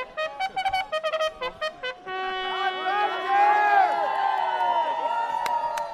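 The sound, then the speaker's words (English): A string of short, rhythmic bursts gives way to a big, sustained swell of stadium crowd cheering at a UEFA football match, impressed by a man's horn, many voices roaring together loudly and evenly until the end. “That man's horn has really impressed the crowd.”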